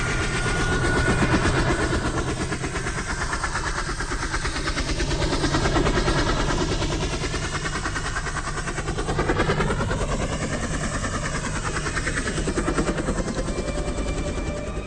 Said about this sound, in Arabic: لفت نظره صوت الطيارة والطيارة ما كانتش باينة، فقعد يبص يمين وشمال عايز يعرف الصوت ده جاي منين.